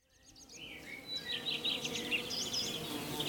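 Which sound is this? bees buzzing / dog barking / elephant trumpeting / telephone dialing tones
bees buzzing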